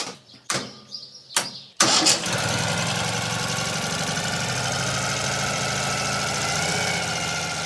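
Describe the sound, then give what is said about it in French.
A Ural sidecar motorcycle engine cranks over a couple of times after the ignition is switched on, catches with a loud roar, then settles into a steady, rumbling idle. Faint birdsong is audible before it starts. “le sidecar Oural que nous avons ramené de Russie lors de notre voyage sur les pas des grognards de la Grande Armée.”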